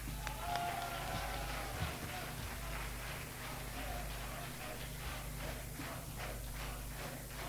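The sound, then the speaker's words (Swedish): An audience at a Sweden Democrats mass meeting in Stockholm applauds steadily as party spokesman Anders Klarström is introduced, dense overlapping clapping sustained for several seconds at a moderate level, with a faint crowd murmur underneath and no clear speech. “ska jag få be att presentera Sverigedemokraternas talesman Anders Klarström, och ge honom en applåd.”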